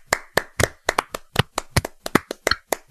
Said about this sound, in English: I want to hear those hands clap.